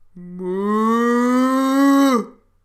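A single drawn-out ox low, about two seconds long, a steady, rich, droning moo that rises slightly in pitch before cutting off abruptly. No one speaks.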